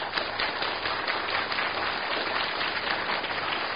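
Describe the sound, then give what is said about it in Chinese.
An audience at a church gathering with the Boys' Brigade applauds as one family: a dense, steady wash of many hands clapping at an even loudness throughout, with no voices heard over it. “我们再一次给掌声大家先。”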